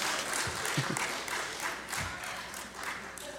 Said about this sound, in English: I see too many guys clapping. What's going on?